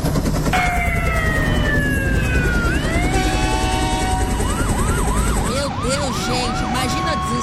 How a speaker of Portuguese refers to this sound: Era um corre-corre geral de viaturas da Polícia Militar, sirenes do Corpo de Bombeiros, misturando-se aos trovões da tempestade que ia e vinha.